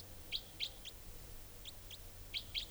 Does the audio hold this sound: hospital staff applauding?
no